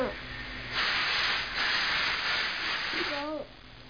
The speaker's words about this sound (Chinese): 嗯，那个在煮肉肉。 在做吃的，今天。 明天就有肉肉吃了，好吧？ 嗯。 那个是高压锅